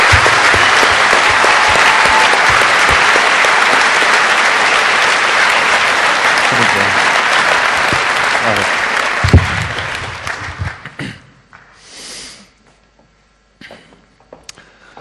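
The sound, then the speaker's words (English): Loud, sustained applause from a large audience for the NOC team, a dense wash of clapping that holds steady for about ten seconds, then thins out into scattered claps and fades to near silence. “And one final round of applause for the rest of your NOC team, because there were quite a few people involved and they worked very hard.”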